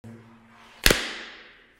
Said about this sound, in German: Jetzt haben wir ja angefangen, jetzt klatsche ich aber nochmal. Damit alle den schönen Hall hören.